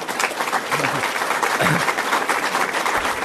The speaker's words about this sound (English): What a coincidence. The former assessor led that applause.